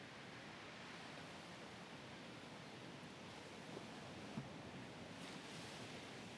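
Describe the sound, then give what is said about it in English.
Steady ocean surf washes continuously onto a beach shore at sunrise, a broad, even rush of water with no pauses, moderately loud, with no voices present. “After a while, you continue strolling down the beach at the water's edge.”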